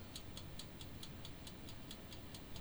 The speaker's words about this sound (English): Can you hear the thing ticking out there?